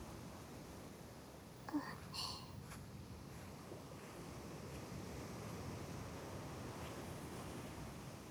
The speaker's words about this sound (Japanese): 波で袖まで濡れてしまいました。